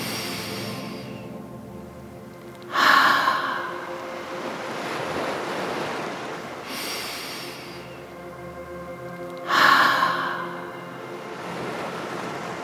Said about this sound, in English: Breath in through your nose. Open your mouth and let the air come out like the ocean. Let's try 2 or 3 more gentle ocean breaths.